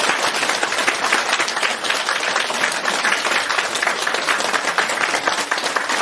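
A crowd breaks into sustained, dense applause to welcome Master Lu Junhong, many hands clapping at once in a steady, loud wash of sound with no voices heard.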